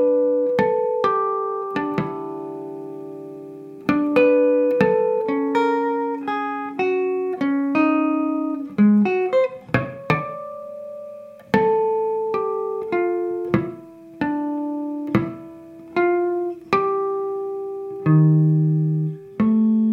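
A ballad melody picked out on guitar in bright, bell-like harmonics, each note ringing and decaying, with sparse plucked bass tones beneath; an unhurried, gently halting phrase with no voices.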